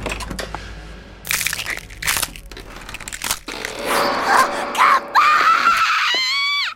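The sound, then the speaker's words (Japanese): Loud crunching of Bonchage fried rice crackers comes in several crisp bursts, followed by a sustained, wavering high-pitched wail that rises toward the end. “ボンチャゲ食う？”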